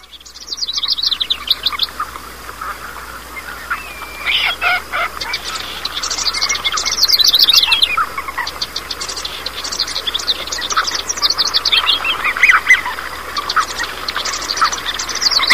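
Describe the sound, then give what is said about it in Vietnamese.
Songbirds chirp and sing in a busy overlapping chorus, with bright rapid trills and tweets from several birds running throughout, fairly close and lively, with no one talking. “Khúc hát của Sơn Ca.”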